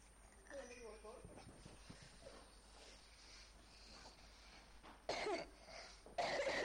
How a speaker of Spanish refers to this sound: ¿Qué se hace cuando uno tose?